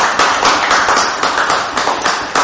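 A crowd applauds steadily, many hands clapping in a dense, continuous wash of sound that stays loud and close throughout, with no voices breaking through.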